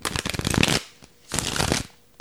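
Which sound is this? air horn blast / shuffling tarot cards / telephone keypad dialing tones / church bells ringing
shuffling tarot cards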